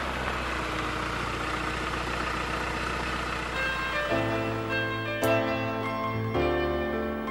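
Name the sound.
bus pulling up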